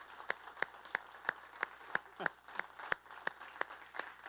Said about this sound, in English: I know many of you are here, but instead of having you stand, can we just thank all of the leaders that served our kids this last week with just a round of applause?